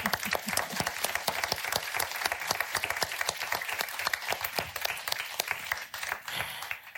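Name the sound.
applause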